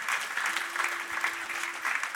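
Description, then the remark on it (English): Steady applause from an audience for the drummers, a dense wash of many hands clapping at once, sustained throughout, with a faint steady tone lingering underneath. “Can we give a round of applause for our drummers here at Branches?”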